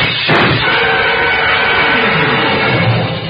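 A sudden loud gunshot blast as shots are fired through the frosted glass of an office door, glass shattering, followed by a lingering crash of debris and rumbling noise, harsh, with no voices.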